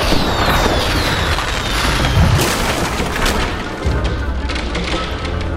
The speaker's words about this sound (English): And now for the grand finale of fireworks, jamboree! Time to huff and puff and blow it all down.